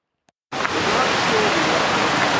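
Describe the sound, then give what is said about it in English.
A steady, dense roar of a waterfall tumbling down about 60-70 feet beside a river starts abruptly after a brief click and continues loud and unbroken. “There's a river, there's a waterfall tumbling down probably 60-70 feet.”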